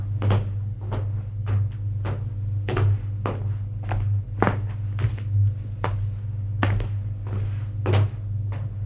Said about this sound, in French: L'homme frappe à une porte.